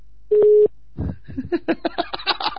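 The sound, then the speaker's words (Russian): A single loud, steady telephone call tone sounds briefly, like a ring on an unanswered line, then stops and a voice starts talking. “он походу выключил телефон.”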